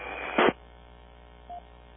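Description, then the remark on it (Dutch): Muffled radio hiss and static with a sudden loud crackling burst, then a short beep-like tone, as several overlapping transmissions clash on one channel; no clear voices come through. “Nou, dit was een cacophonie van signalen door elkaar.”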